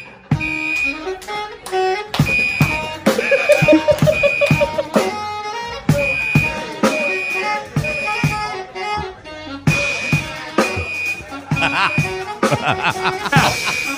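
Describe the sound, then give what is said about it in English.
A shrill fire alarm, a false alarm that cannot be turned off, beeps in a steady, repeating pattern while a group of professional jazz musicians plays along with it, drums and instruments loud, the alarm tone cutting through the music throughout. “a jazz group is hanging out in a room, and the fire alarm goes off”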